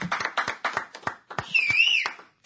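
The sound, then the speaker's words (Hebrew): A short burst of applause in honour of the speaker's wife: sharp, irregular claps from a small group, with a high wavering whistle-like tone rising over the clapping partway through before it fades out. “מגיע לה, אני חושב, מחיאות כפיים.”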